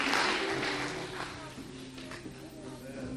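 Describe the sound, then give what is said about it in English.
An audience claps their hands in praise to God as they stand to their feet, a dense, steady wash of applause with sustained organ-like tones humming underneath. No one speaks. “Let's give God a hand clap of praise in this place as we stand to our feet.”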